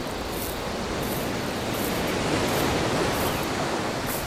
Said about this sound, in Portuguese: Bom, pessoal, já estou começando a ouvir o barulho do mar aqui, a gente está chegando na praia para pegar o nosso barco de volta.